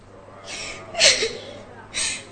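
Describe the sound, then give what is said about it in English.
A woman crying: three breathy, shuddering sobs in a row, the middle one the loudest and breaking into a short whimper. “Why are you crying like that?”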